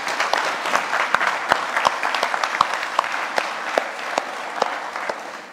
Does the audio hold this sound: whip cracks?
no